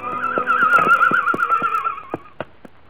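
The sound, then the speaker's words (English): A horse, the mare Maudine Four with an injured, limp foot, whinnies in a long, wavering, high-pitched call lasting about two seconds as she is led gently to her stall, with sharp hoof knocks beneath it, followed by a few scattered clops after the neigh fades. “As gently as they could, they led her to her stall.”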